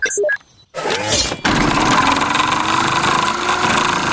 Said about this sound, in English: The camper van is driving into the river. Our camper van has turned into a boat.